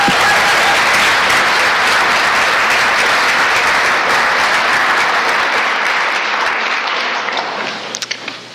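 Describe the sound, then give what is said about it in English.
A large audience at a service applauds loudly and steadily for several seconds for everyone who shared, a dense wash of clapping that thins out near the end into a few scattered final claps. “Let's have one last big round of applause for everyone who shared.”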